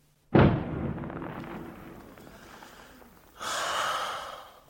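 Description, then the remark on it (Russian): A single deep, booming artillery shot fired from bastions, its low rumble rolling away over a few seconds, followed by a softer hissing wash of noise. No one speaks. “Вечером, когда на Приморском бульваре около павильона играет егерский духовой оркестр, и по зеленоватой воде разносятся звуки какого-то старинного вальса и звуки выстрелов с бастионов, которые странно вторят им.”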